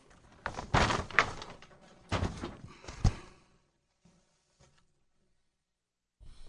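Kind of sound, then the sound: human body sound, sneeze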